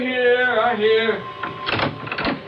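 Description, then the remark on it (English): A voice speaks briefly, then a door is opened with a short burst of rattling, scraping noise lasting about a second. “open the door.”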